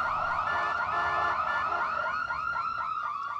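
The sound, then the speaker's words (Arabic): An ambulance siren wails in a fast, repeating yelp, its pitch sweeping up and down several times a second, loud and steady throughout with no voices. “لأنتظر وأرى بنفسي من ستكون الطالبة المسكينة التي ستركب في سيارة الأسعاف.”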